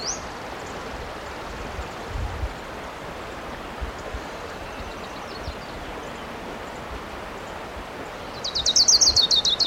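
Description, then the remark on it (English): A wild bird, identified as an orange crown, calls over a steady rumbling background: a brief high note at the start, faint chirps midway, then a loud, rapid high-pitched trill near the end. “I see the bird.”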